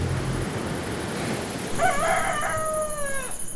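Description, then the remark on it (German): A rooster lets out one long crow, a bright harmonic call that wavers and then slides downward as it fades, heard over a steady background hiss with no talking, before sunrise in Mazunte, a small, tropically warm seaside village in southern Mexico. “Noch bevor die Sonne aufgeht, krähen die Hähne unerträglich laut.”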